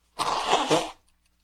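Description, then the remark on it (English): One forceful nose blow during a radio show on air, a breathy honk lasting under a second, then quiet. Nobody speaks. “you did the radio show on Life is a Daring Adventure and kept blowing your nose on air”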